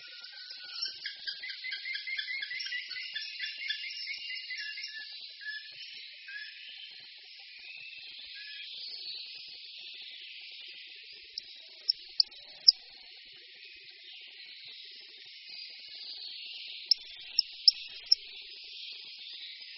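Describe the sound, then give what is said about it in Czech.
Pygmy owls mating near their nest cavity give high, thin chirping and squeaky twittering calls with muffled whistles that run continuously, fairly faint, with a few sharp clicks later on and no voices. “V těsné blízkosti dutiny probíhá také páření, které doprovází tlumené pískání a cvrčivé hlasy.”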